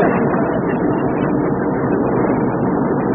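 A car engine that needs a little tune-up drones steadily, a dense, continuous rumbling roar that holds an even loudness throughout, with no talking and no change in pitch.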